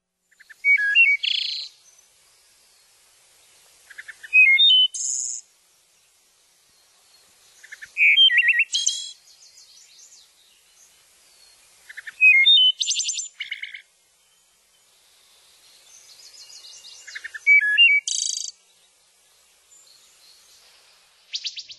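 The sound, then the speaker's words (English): A wood thrush sings a series of clear, flutelike phrases, each ending in a shimmering trill, repeated about every few seconds with short pauses between them, with no voices and no background noise. “And actually, let's listen to the wood thrush also, and then maybe Bill and Noel can compare those for us.”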